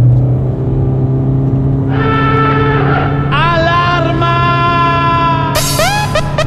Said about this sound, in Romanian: Nu că nu ar fi automată, nu că n-ar schimba foarte bine vitezele, dar aduce un zgomot de motor un pic nefiresc atunci când accelerezi un pic mai mult pentru o depășire, de exemplu.